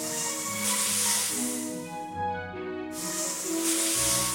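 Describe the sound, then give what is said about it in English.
Two long, loud snake hisses, separated by a short pause, sweep over a cheerful melody playing steadily underneath. “Now slither like a snake on the jungle floor.”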